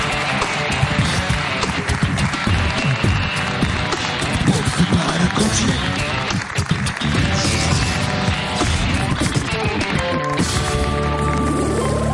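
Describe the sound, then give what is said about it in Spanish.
A loud, steady wash of audience applause and cheering on the Movistar Plus show La Resistencia, mixed with lively band music, which takes over with sustained tones near the end. “Un aplauso”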